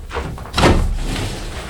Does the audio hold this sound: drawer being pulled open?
yes